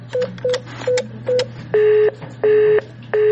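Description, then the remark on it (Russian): A telephone busy signal heard when calling a subscriber in the uncontrolled territory of Donbas, where users of the Donetsk operator Phoenix cannot be reached: after four short, quick beeps, three longer steady tones repeat with even pauses between them, loud over a low constant hum. No one speaks. “Сигнал занято. Это все, что можно услышать, если пытаешься дозвониться абоненту на неподконтрольной территории Донбасса.”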